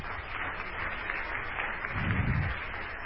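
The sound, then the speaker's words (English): A crowd of people claps their hands for the Lord in a steady, dense wash of applause that lasts throughout, moderately loud, with a fuller low rumble swelling near the end. “Clap your hands for the Lord.”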